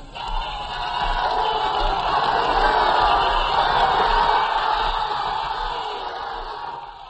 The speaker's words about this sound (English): It's been the most marvelous procession I've ever seen. Here they are, they're just mad with joy. Just listen to these crowds.